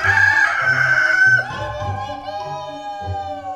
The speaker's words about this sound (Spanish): amanecer en Pasquillita. A las 3 de la mañana, los gallos anuncian la llegada de un nuevo día.